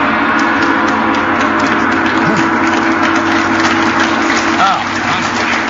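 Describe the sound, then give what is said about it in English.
A voice imitates a London Underground train: a loud, continuous rumbling roar with a steady droning hum that holds for several seconds, with a few whooshing swells. “We're obviously on a tube.”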